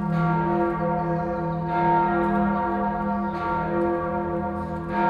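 The large bells of St. Kunibert's Romanesque church in Cologne, a ten-bell peal whose largest, the Engelglocke, weighs over 9 tonnes, ring together in a full, continuous peal, deep sustained tones overlapping with fresh strikes roughly every one to two seconds, loud and with no voices.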